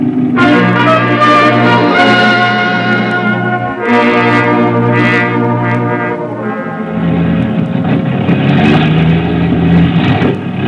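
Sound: aircraft engines revving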